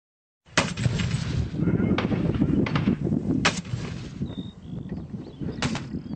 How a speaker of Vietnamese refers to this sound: Tiếng súng đã nổ ra trong đêm mùng 3 tháng 6 ngay sau khi thỏa thuận ngừng bắn giữa quân đội Sudan và lực lượng hỗ trợ nhanh hết hiệu lực.